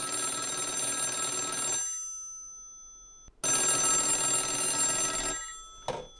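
A black landline wall phone, installed by Marbell more than 40 years ago in a house in Plymouth, about 25 miles west of Bangor, with no internet or cell phone, rings loudly in two long metallic bursts separated by a pause, followed by a brief clatter at the end.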